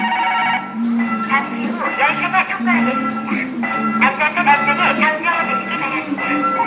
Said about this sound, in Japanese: 聞こえるでしょうか。今踏切の音がしています。